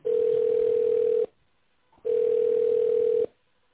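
A telephone ringback tone while waiting for an operator to answer a call to an official Hyundai road-construction equipment dealer in Russia: two steady, mid-pitched beeps, each lasting just over a second, separated by a short silence. No voices are heard.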